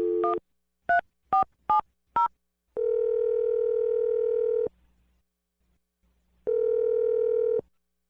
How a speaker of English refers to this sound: Let's dial the phone number right now. Here we go.